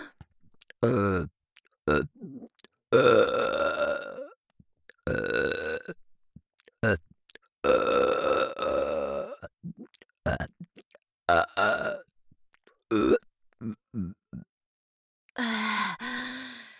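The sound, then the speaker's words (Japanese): A string of loud, long, drawn-out burps that will not stop come one after another with short pauses between them, some rumbling and some rising into a strained, voiced tone. “ゲップキッ”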